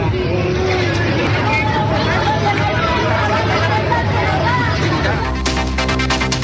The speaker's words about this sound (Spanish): Ahí ustedes escuchaban el bullicio de las personas que claramente estaban muy preocupadas porque primero habían sido evacuadas por un tema preventivo relacionado con el humo.